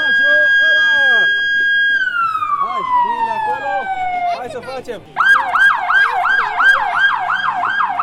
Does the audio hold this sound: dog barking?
no